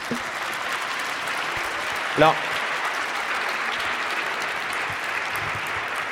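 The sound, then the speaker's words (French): An audience claps steadily for several seconds, a dense, even patter of many hands that holds at the same level throughout, with a brief voice calling out partway through. “Alors moi je suis très heureux qu'on vous applaudisse”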